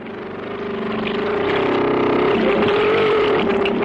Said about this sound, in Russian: Буксирный катер быстро удаляется от баржи.